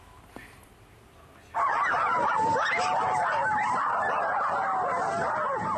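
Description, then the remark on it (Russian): After a brief quiet moment, a group of children pretending to be animals, a quadrobics pastime, suddenly break into loud, overlapping howls like dogs or wolves, their wavering wails rising and falling together without pause until the end. “По звуку вой собак или волков на деле дети, притворяющиеся зверями.”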